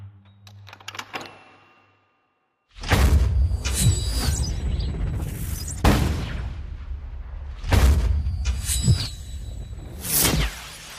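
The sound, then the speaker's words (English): Loud gunfire from a shotgun and a rifle erupts in a dimly lit drugs factory after a brief quiet intro, sharp blasts repeating every second or two over a dense roar of rifle rounds shattering glass trays of blue liquid and slugs tearing through a walkway. “Rifle rounds slam into trays of Valkyr, causing explosions of glass and blue liquid.”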